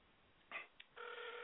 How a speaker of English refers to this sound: Let's see, and two ringy dingies.